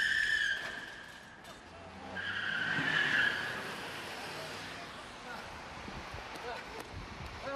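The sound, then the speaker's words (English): Tires skid and squeal sharply twice over a revving car engine as a car runs over and hits Roddy Piper, the second screech longer and louder, with excited voices and crowd noise underneath. “He's running over him! He's gonna hit him!”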